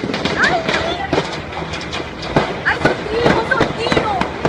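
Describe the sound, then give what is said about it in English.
Irregular bursts of sharp gunfire cracks ring out over a constant rushing background, with faint shouting voices scattered in between, as a police helicopter hovers over the Supreme Court and Interior Ministry in Venezuela. “You can see and video the chopper and hear the gunfire.”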